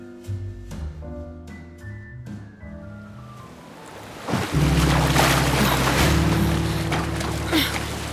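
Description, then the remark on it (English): Gentle tonal music plays at first, then a sudden loud rush of ocean waves surges in and keeps churning, a steady roaring wash of water over the fading music. “Tide! Pulled me away. Head above water.”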